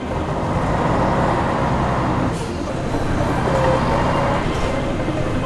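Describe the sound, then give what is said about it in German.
Steady low engine rumble and road noise from inside a moving bus, with a couple of brief hissing bursts like air brakes; no one speaks. “Jetzt sind wir in dem Bus im Südhaus.”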